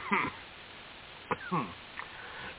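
coughing

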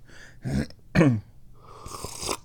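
sipping hot tea

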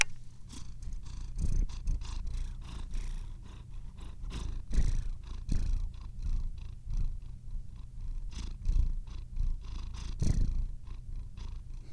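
cat purring

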